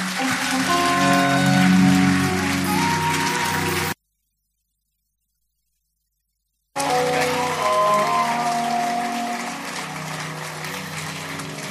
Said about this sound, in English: Come on, let's give Jesus a louder, bigger applause.